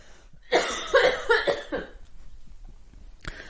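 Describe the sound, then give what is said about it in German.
A loud fit of coughing: four or so harsh, rapid coughs in a cluster, then a pause and one final short cough near the end. No talking. “Ich muss ganz kurz ganz laut husten, warte.”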